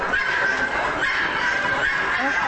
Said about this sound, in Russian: На выставке, организованной обществом любителей декоративных кур, очень шумно. Так шумно, что порой нужно громко говорить собеседнику прямо в ухо, чтобы тот услышал.